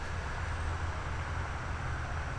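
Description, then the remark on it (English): A steady, unbroken roar of interstate highway traffic, heard from close to the interstate, fills the background. It is a dense low rumble with a broad hiss on top and no distinct passing vehicles or voices, at a mosquito-filled spot among logs. “I'm so close to the interstate that the traffic noise is throwing me off.”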